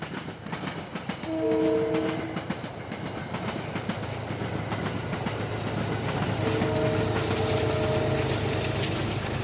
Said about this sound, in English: So we're about 1,000 feet from the front door, and we're standing right now on this walkway, which is itself a piece of sculpture. It's the most beautiful decking you've ever seen. It's raised up, and here comes the train.